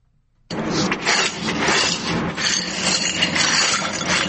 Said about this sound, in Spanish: Lo que escuchan son partes de una de las ventanas de más de 200 viviendas que resultaron afectadas por el atentado terrorista ocurrido en las últimas horas en la Escuela General Santander.